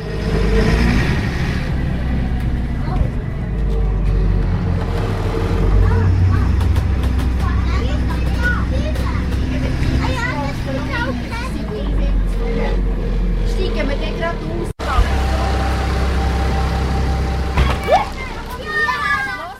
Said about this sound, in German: Wir warten am Bahnhof Truppigen und warten auf den Bus.